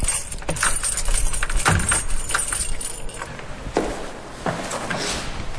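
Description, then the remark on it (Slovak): Keys jangle and clink in bursts of bright metallic rattling, followed by scraping and clicking as a key works the lock of a chapel door, with a low background hum throughout. “A vy ste zaštrngali kľúčami, to znamená, že máte kľúče od kaplnky so sebou? Máme kľúče od kráľovstva.”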